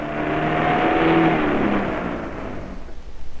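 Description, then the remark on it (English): A van's engine revs up with a rising, droning pitch, loud and steady at first, then eases off into a rougher rumble as the van is driven onto a craft. “Look, I'll drive the van onto the craft, then we can keep a running commentary going throughout.”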